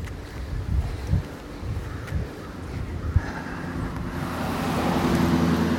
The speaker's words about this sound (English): Yeah. Here comes the car.